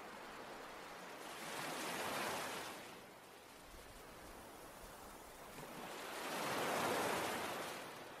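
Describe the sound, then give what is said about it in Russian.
Ocean waves wash onto the shore in two slow surges, each swelling into a broad, hissing roar and then easing back, with a steady soft wash of surf between them and no voices. “Смотрите, как следующая волна пробегает мимо, омывает ваши щиколотки, а затем отступает и уносит с собой ваше второе послание.”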